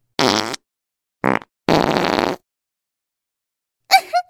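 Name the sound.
fart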